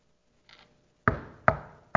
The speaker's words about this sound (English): Or a knock comes on your door in the middle of the night.